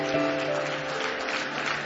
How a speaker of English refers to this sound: Give me one more hand clap of praise tonight.